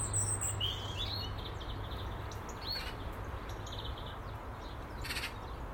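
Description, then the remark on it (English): Three blackbirds singing outdoors up in a silver birch tree, with scattered high chirps and short warbling phrases over a steady low background rumble; no voices. “Now I've got three blackbirds up in the silver birch tree.”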